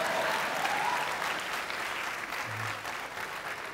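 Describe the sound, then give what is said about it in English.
An audience at a church sermon breaks into steady applause, a dense wash of many hands clapping at once that holds at an even level throughout with no voices rising above it. “I thought you'd clap for that.”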